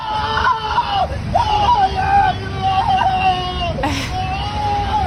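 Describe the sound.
A man cries out in pain as an ICE vehicle runs over his foot while he is being detained, in long, wavering, high-pitched wails that rise and fall over several seconds, with a steady rumble of background noise and murmuring voices beneath.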